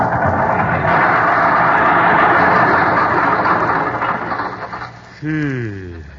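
A rough old car motor rumbles and strains steadily as the car turns into a driveway toward the garage, gradually fading and faltering, then ends with a brief whining tone that slides downward in pitch as it comes to a stop.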